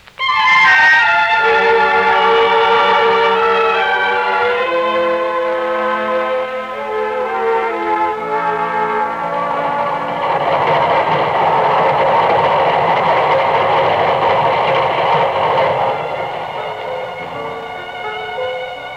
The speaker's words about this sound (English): There's your train. Yes. I'll come over to the platform with you.